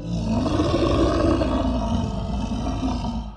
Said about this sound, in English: But these two were in the park at that time, and as they discussed different ways to rescue cats, their conversation was interrupted by a deep, guttural growl.